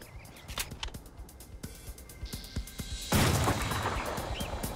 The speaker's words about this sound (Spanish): Jackson lo persiguió disparándole en la espalda con una escopeta recortada.